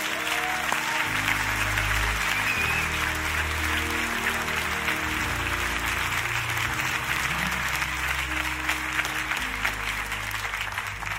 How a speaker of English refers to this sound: Everybody who receives this word, give God a hand clap of praise.